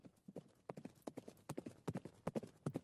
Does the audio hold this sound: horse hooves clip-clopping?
yes